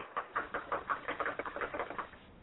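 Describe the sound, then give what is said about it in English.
A rapid, steady series of about a dozen knocks, knuckles rapping on a door, moderately loud, with no talking. “But then I commit the motherfucking knock.”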